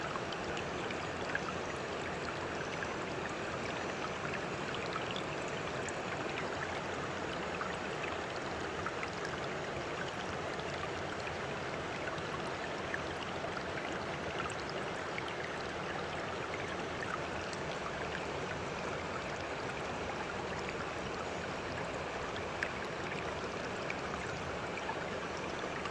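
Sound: flowing river water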